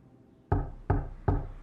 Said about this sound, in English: It took me nearly 5 minutes to process that sound that I was hearing was knocking.